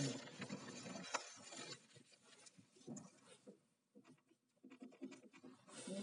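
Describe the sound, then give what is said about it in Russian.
A pen that won't write scratches and scribbles back and forth across paper in quick, uneven bursts, fairly quiet, with brief pauses between strokes and no voices. “Ничего не пишет. Это карандашик. Такие ручки раньше всегда выбрасывал сразу этот самый.”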